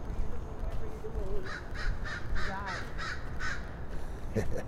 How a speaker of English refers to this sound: One lone crow singing in the morning.